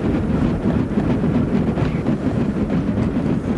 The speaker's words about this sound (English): Well, that's a Arctic sea ice. It sounds like a motor engine. Yeah, that last part reminded me of someone trying to start an old truck or a tractor. Yeah, or even like a propeller or something.